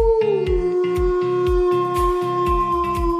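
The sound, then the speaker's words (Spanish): A single long wolf howl holds a steady, slightly falling pitch for several seconds, loud, while a rhythmic low thumping beat pulses underneath. “El del lobo, aullar.”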